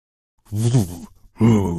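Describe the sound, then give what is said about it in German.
A voice imitates the deep, booming bass that suddenly comes from cinema speakers as the lights go out, in two low, resonant vocal bursts, each about half a second long, with a short pause between them and no words. “So ein richtiger Bass, der dann plötzlich aus diesen Lautsprechern kommt.”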